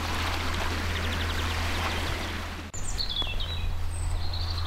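Fast-flowing cold mountain stream rushing steadily, a dense continuous wash of water, with a few high bird chirps piping over it in the second half.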